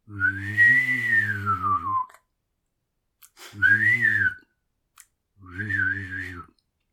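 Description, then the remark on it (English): A person makes a droning, whistly mouth sound imitating a vacuum cleaner motor: one long two-second burst, then two shorter ones, each a steady tone with slight pitch wobble and a low buzzing undertone. “Sounds like you have a vacuum cleaner. Because it sounds a lot like a motor of some kind.”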